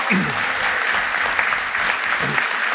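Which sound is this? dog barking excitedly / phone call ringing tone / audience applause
audience applause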